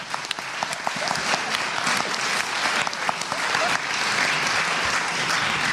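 An audience applauds steadily, a dense, continuous patter of many hands clapping at even loudness for several seconds, with faint voices mixed in.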